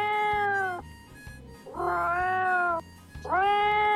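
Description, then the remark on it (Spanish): A cat meows plaintively three times in a row, each drawn-out, whining call loud, with brief pauses between them and no voices. “Es un gato quejoso, me es parece.”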